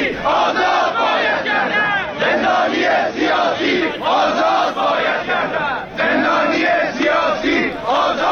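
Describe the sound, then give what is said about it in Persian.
Protesters in Hamadan chant slogans against Russia together in loud, rhythmic bursts of many voices, with short pauses between repeated phrases and steady energy throughout. “تصاویری هم همچنین انتشار یافته از همدان که گفته میشه از همدان و همچنین شعارهایی که علیه روسیه در همدان تظاهر کنندگان سر دادن.”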